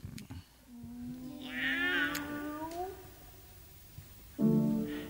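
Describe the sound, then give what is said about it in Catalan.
A singing voice imitates a cat, drawing out a long, sliding meow that swells and rises, followed by a second voice answering with a shorter, lower meow near the end. “Els cantants fan una mica d'actors, no? Fan una mica de parella de gats, ah, no?”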